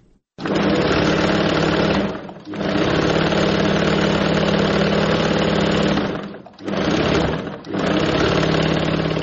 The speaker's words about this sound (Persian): صدای ماشین خیاطی